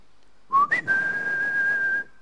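A shepherd's loud, breathy whistle calling his flock of sheep: a short rising note that leaps higher, then one long steady tone held for over a second, alone.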